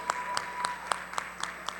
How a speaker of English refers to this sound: Oh, keep on clapping.